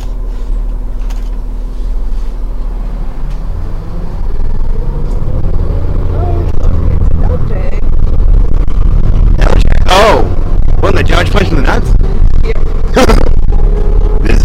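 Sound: bus interior engine rumble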